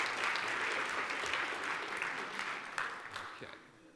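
A church audience breaks into steady applause for a child, a dense wash of many hands clapping together that holds for a few seconds before tapering off toward the end.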